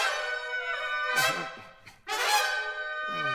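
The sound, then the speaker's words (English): Big band trumpets sound loud, sustained chords with smeared, squeezed half-valve bends in two swelling phrases separated by a brief dip, the half-valve effect in call and response with the unison ensemble, with no voices. “Now I want you to listen to this one for what we call half-valve trumpets.”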